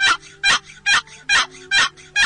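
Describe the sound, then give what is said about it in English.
A series of five evenly spaced, raspy gobbler yelps made on a turkey call, loud, with a steady rhythm and brief pauses between each note. “Gobbler yelps is a good call in the fall of the year.”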